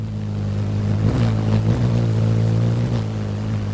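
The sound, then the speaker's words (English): Hummingbird wings hum in flight: a steady, low, buzzing drone with a rich layered tone that wavers briefly in pitch a couple of times, continuous and fairly loud throughout. “Just what puts the hum in a hummingbird's wings?”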